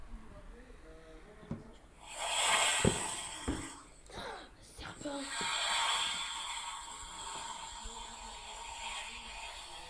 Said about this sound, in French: Une couleuvre ? Un serpent. C'est une vipère. Un serpent. Un serpent. Un serpent. Un serpent. Une vipère. Un boa. Bah, vous avez tous gagné. Bah, c'est déjà un serpent. Et c'est une vipère, précisément.